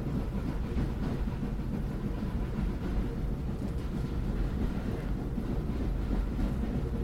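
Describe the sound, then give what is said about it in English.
A Pullman train rolls steadily along the tracks across the plains of Texas, a continuous low rumble with faint rhythmic clatter beneath it, with no voices. “Well, Sheriff Potter's facing his high noon as the train rolls on.”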